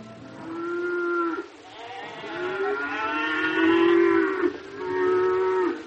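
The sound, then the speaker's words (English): Oxen low in three long, drawn-out calls, one after another with brief breaks, fairly loud, standing with sheep and goats as a caravan halts after a long march. There is no talking and little else in the background. “The oxen, the sheep, and goats stood motionless after the long march, grazing only as far as their lips could reach.”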